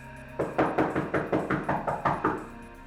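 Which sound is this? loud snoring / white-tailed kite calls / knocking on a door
knocking on a door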